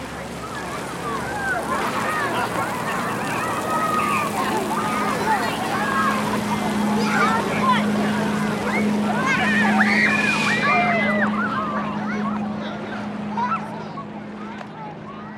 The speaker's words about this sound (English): boats and speedboats, laughter, and music played on portable speakers, these might seem innocuous or even seem to be nostalgic sounds associated with summertime fun in southern British Columbia.